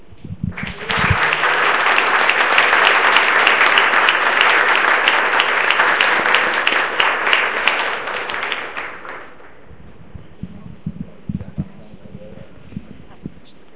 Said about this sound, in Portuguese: Eu sei que vocês já muitas vezes aplaudiram o trabalho desse pessoal que está junto com vocês construindo essa superação desses desafios, mas eu acho que não tem nenhum problema eu propor mais uma vez a gente aplaudir essa equipe.